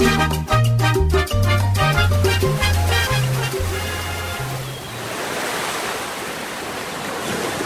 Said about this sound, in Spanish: Las espumosas olas de un mar de color intenso bañan la amplia costa, donde varias decenas de hombres y mujeres en trajes de playa, sentados o acostados en la arena, disfrutan los rayos del sol tostando sus pieles.